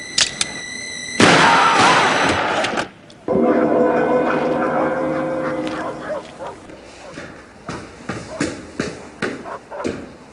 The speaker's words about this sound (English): We heard shots. What happened?